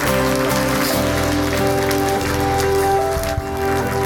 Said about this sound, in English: Give Janine a round of applause.